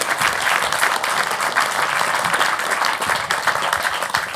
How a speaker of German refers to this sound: Komm auf die Bühne. Einmal Applaus.